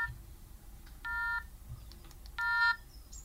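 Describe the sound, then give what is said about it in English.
Telephone dialing tones over a speakerphone as a written-down phone number is called: a few short, faint beeps and two longer, steady electronic tones about a second apart, set against a low background rumble with no talking. “Do you want me to phone it? Yeah, phone it”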